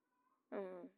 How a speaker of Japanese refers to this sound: 隣に猫もいるんですけど、まあそんな感じで。では、まだ泣いとるな。さっきまで泣き止んでたのにいきなり泣くってどういうことなの？私が泣いたって思ったのかな？